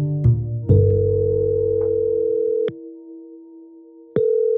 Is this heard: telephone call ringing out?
yes